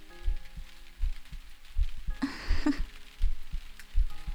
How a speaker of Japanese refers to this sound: そうか、心臓の音を聞こえるか。恥ずかしいわ。